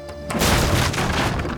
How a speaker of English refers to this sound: The battering ram collided with the decrepit, sun-bleached wooden door with enough force to smash it off its hinges. It flew backward in a hail of splinters that appeared as ghostly flashes through the green view cast by the night vision goggles.